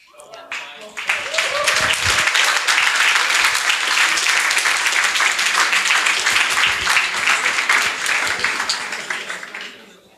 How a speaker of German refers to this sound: ein Applaus für PiCash